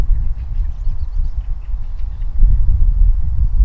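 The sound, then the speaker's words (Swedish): Wind blows through trees in a park on an October morning in a steady, deep rumble with uneven gusts, swelling louder partway through. A few faint, high chirps sit above it, and no one speaks. “Vinden tar i lite grann.”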